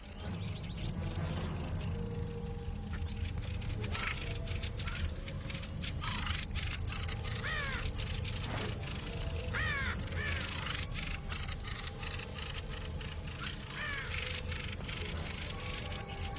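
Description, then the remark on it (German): A raven croaks and caws repeatedly as thrushes mob it with rapid, harsh chattering calls and sharp chirps, a dense, agitated outdoor chorus over a low steady background rumble. “Geschockt von dem Gegenangriff flüchtet der Rabe. Doch die Drosseln greifen weiter mit aller Macht an und bringen den Gegner zu Boden.”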